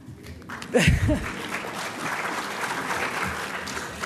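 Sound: audience applause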